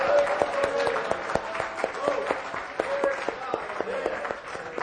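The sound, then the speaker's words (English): An audience claps in praise to the Lord, a dense, steady patter of many hands that continues for about five seconds, with voices calling out faintly underneath. “Let's give a clap of praise unto the Lord.”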